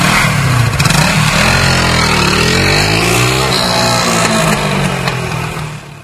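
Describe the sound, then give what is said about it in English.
A scrambler motorcycle, dirt-bike style and not a Harley, revs loudly, its pitch rising and falling in a few throttle surges before fading slightly as it moves off. No one speaks. “That ain't no Harley. That's a freaking scrambler. That's a freaking moped. It's like a dirt bike.”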